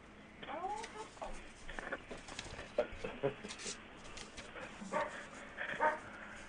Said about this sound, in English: Is it look like the puppy dog that I hear barking in the background? That's Dondo and Kiwi.